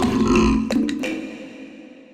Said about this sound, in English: We're constantly belching out tons of methane gas, which is a significant contributor to climate change.